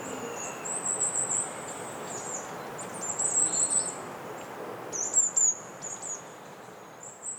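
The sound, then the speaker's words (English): High, thin bird calls, heard in the morning through an opened window, come in three short bursts a couple of seconds apart over a steady wash of outdoor background hiss, fairly quiet. “I'll just open the window to see if the birds have woken up yet.”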